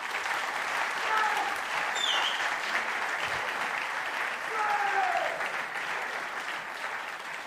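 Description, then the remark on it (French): A crowd applauds steadily for several seconds for those who led the morning worship, a dense, even wash of clapping that stays loud throughout, with a few brief whistles or cheers rising over it. “Moi, j'ai envie simplement qu'on peut applaudir ceux qui nous ont conduits dans la louange ce matin.”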